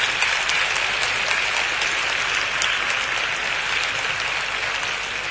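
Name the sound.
loud audience applause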